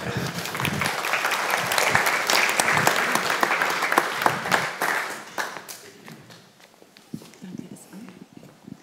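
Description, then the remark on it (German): An audience applauds with dense, steady clapping for about five seconds as a speaker is called to the front, then it thins out into a few scattered claps and fades away. “Einen kleinen Applaus für dich.”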